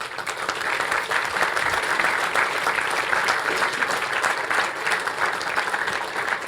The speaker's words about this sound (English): Okay, before I close this session, I would like to say a big thanks to all the hardworking angels on this Congress who make this Congress possible. Please give them an applause.